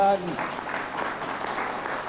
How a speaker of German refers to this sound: Begeisterter Beifall bei den zumeist älteren Zuhörern. Ihr Landsmann hat sie einmal mehr in seinen Bann geschlagen.